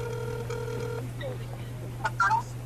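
A phone line rings without being picked up: one steady electronic ring tone lasting about a second, then quiet line hum, with a short murmur of voice near the end.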